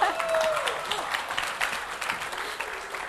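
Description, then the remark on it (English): An audience claps steadily, a dense, even wash of many hands sustained throughout, with a brief tonal whistle or voice rising over it at the start. “You keep clapping your hands like that, I will study here.”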